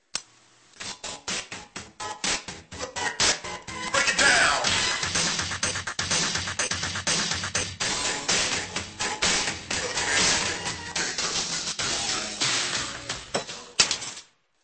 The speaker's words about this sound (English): Sorry, dear citizens. I knocked the disc off. Please wait while I pick it up off the floor and carefully realign it.